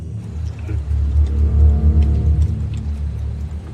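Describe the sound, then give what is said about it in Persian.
A car engine idles with a deep, steady rumble, then revs up loudly in a few surges before settling back to a heavy idle, with no talking. “ماشینتو خاموش کن، کلیده رو بذار زمین، در رو باز کن.”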